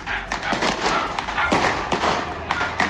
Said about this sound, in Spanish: Y se escucha. No sé si lo logras escuchar, William. Algunos perros se escuchan ladrando. Algunos fulminantes caen sobre las casas. Y no para. O sea, lo que estamos viendo, esto es en la comuna de Pudahuel.